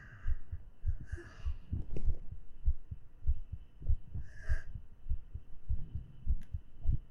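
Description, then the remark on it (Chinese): A fast, steady heartbeat heard through a chest: deep, muffled low thumps repeating in a quick, even rhythm, fairly loud, with occasional soft rustles over it and no talking. “听一下，可是这样听不到，那我只能把胸压在主人耳朵上了。”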